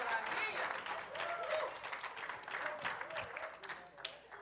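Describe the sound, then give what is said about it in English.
An audience clapping in a dense, steady burst of applause lasting several seconds, with voices calling out over the clapping. “Y'all don't clap too soon now, because we didn't get to the whole story yet.”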